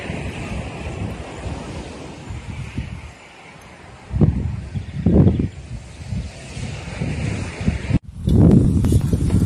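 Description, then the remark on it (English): Wind buffets the microphone at the beach, with low rumbling gusts surging over a steady wash of surf; a brief cut near the end before the blustery roar resumes. “It got a bit too noisy and windy down at the beach.”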